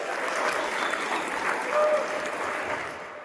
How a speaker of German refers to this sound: Für dieses Versprechen erntet er ordentlich Applaus.